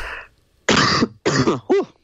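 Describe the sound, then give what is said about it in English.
A loud coughing fit: three harsh bursts in quick succession, the last rising into a raspy throat-clearing sound, with a softer breathy rasp just before them. “Sorry, I have a coughing fit coming.”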